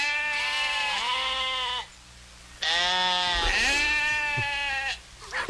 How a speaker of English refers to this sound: Is that a goat? Sheep. Yeah, it's sheep. Is there really a difference between the sound?